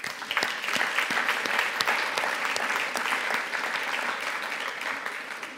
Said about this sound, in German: Und ich möchte ganz herzlich alle Leute, die vielleicht zum ersten Mal hier im Gottesdienst sind, ganz herzlich begrüßen. Und ich bitte euch einfach mal einen Applaus denjenigen zu geben.